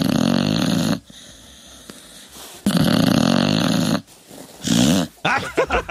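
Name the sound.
dog snoring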